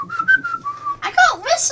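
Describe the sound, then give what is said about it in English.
Someone whistles a short tune: a few quick clear notes, then a longer held one, before a voice cuts in over the end. “Well then whistle that again.”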